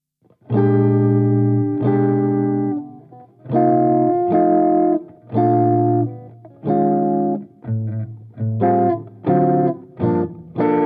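An electric guitar through an amp with a slightly crunchy, mildly overdriven tone, playing sustained chords in a loose rhythm, then shorter stabbed chords toward the end. Loud and alone, with no talking.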